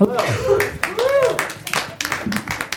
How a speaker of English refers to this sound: …, step up to the mic. Round of applause for ….